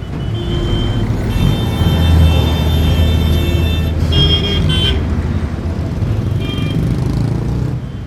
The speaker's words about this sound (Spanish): Este es uno de ellos, el de su intenso tráfico en las horas punta, retenciones y caos circulatorio en las principales calles en las que comparten carril coches de última generación y otros destartalados.